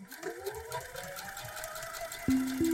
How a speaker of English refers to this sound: Jake was watching his mom using the sewing machine